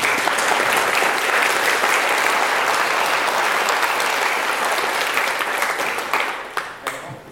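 An audience applauds steadily, a dense wash of clapping that holds strong for about six seconds before thinning out to a few scattered claps and fading away.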